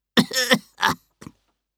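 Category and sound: human body sound, cough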